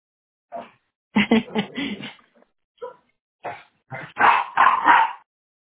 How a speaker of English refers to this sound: Too loud. The dogs were too loud, sorry. Yes, they are.